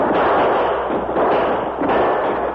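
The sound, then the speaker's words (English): A loud, dense barrage of gunfire as outlaws leap from a locomotive cab in a prison yard and open fire, overlapping shots blurring into a steady crackling roar for a couple of seconds, with no voices heard. “As the engine came to a stop near the end of the track, the outlaws leaped from the cab with guns in hand and opened fire.”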